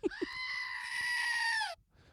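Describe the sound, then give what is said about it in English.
A goat lets out one long, loud, strained bleat lasting nearly two seconds, preceded by a couple of short soft bumps and then silence. “Someone sent me a goat through the mail the other day”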